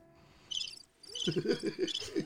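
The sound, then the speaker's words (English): Crickets chirp in quick, repeating high-pitched bursts, with a short pause before the chirping resumes and grows busier. The classic 'awkward silence' crickets effect, clear with no talking. “It ain't no crickets.”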